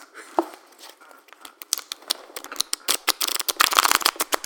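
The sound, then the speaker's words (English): Sleeved trading cards being shuffled: crisp, plasticky clicks and flicks that start sparse and soft, then quicken into a dense, louder flurry of overlapping snaps. No one speaks. “No, it's if you've ever played Magic and you had your cards in sleeves, then you're going like, oh, yeah.”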